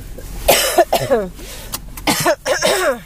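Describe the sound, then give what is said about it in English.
A person coughs and chokes in a series of harsh bursts, with strained throaty gasps between them and a second rough fit near the end. “I should have started that before I coughed and choked.”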